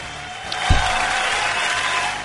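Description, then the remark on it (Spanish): A brief burst of applause sound effect, a steady wash of many hands clapping at an even level with one low thump early on, lasting about two seconds with no voices. “Aplausos.”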